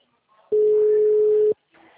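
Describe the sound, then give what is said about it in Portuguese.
A single loud, steady ringback tone from an outgoing phone call, one pure mid-pitched beep lasting about a second, with faint murmuring voices before and after it. “É bom porque assim, ó, tem que, a ligação que vai ter que ser feita, não tem jeito.”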